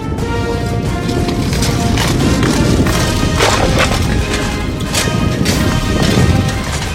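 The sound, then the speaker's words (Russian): A horse gallops hard in a joust in a steady rhythmic drumming of hooves, loud over a dense rumbling background, as the rider gradually lowers a lance forward, with a few sharp cracking impacts of the lance strike standing out midway. “он когда скачет, постепенно опускает копье вперед.”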